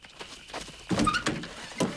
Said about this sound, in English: She looks shell-shocked as he leads her to the car. He opens the car door for her.